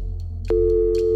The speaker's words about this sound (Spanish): Y cuando se acercó la hora, tomé el teléfono y marqué. Por un momento el timbre sonó